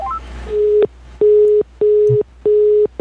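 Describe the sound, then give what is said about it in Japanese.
A telephone line tone as a call is placed to a guest: a few quick rising dial beeps, then a steady low tone pulsing on and off four times in an even rhythm, clear, with no one talking. “それでは私の方から電話しますけれども、よろしいですか？”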